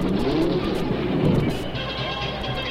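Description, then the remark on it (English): A turbocharged Offenhauser race car engine roars loudly and steadily during Indianapolis qualifying, at a qualifying speed of 169.507, its pitch shifting slightly as it speeds past, with a rough, buzzing drone throughout and no voices. “His qualifying speed of 169.507 in a turbocharged Offenhauser gives him a front row spot.”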